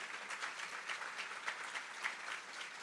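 A crowd applauds steadily, many hands clapping in a dense, even wash of sound with no voices, holding a constant moderate level throughout.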